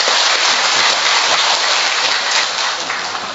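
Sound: big round of applause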